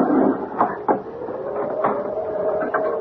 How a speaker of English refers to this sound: That door is booted shut. All I have to do is pull the wooden bolt back, and the door will open.